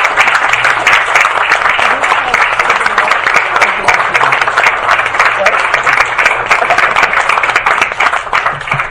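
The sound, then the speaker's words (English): A crowd at San Diego Comic Fest applauds loudly and steadily, dense overlapping claps filling the whole stretch without pause, with a faint murmur of voices mixed in. “Let's give a big round of applause for the gorgeous...”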